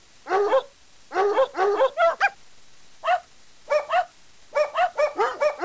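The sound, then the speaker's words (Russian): A black cat barking like a dog: loud, tonal dog-like barks come in uneven bursts, about a dozen in all, some in quick pairs and runs with short gaps between, and nothing else is heard. “Потом в окне показался черный кот и залаял.”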